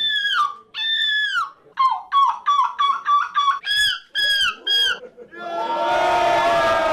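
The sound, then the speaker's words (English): At the Gull Screeching Championship, people shriek in high, wavering seagull-like cries, a series of loud mimicked screeches one after another, followed by a burst of crowd cheering and applause at the end. “Humans doing their best to sound like seagulls, of course.”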